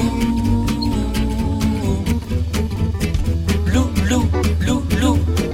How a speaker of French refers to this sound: c'était le générique du court-métrage d'animation que vous avez co-réalisé, Grégoire Solotareff, Loulou.